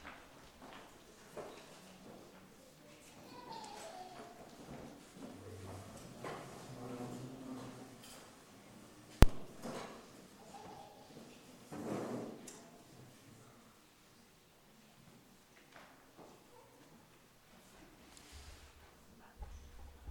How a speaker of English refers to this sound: Might be able to pull a couple extra chairs from the side over here.